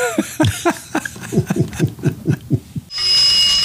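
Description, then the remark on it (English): A string of rapid, rhythmic chuckle-like bursts gives way to a bright, sustained ringing of a teletype machine's bells that holds steady and fairly loud until the end. “What is that sound? It's a teletype machine.”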